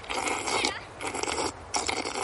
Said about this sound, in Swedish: Vad det låter när du dricker. Det låter så här när kor dricker.